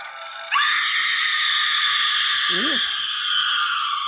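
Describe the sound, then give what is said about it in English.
A woman's high, piercing shriek starts abruptly and holds loud and steady for several seconds, with a brief low, wavering moan rising beneath it partway through. “A paranormal event, untold, beyond the shriek of a woman.”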